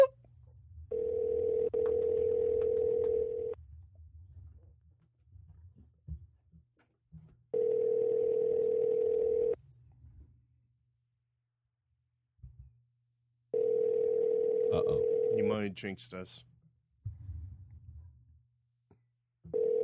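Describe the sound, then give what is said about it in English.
A telephone call ringing on the line as a call is placed to a guest: three long, steady mid-pitched ring tones separated by pauses, with a brief remark spoken between rings. “Maybe he's collecting phone rings.”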